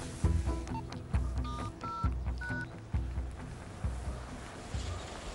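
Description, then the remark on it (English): A man dials on his mobile phone: a quick series of phone keypad tones, about five or six short beeps, over a rumbling, windy outdoor background that continues after the dialing stops, then a ringing tone. “It's ringing.”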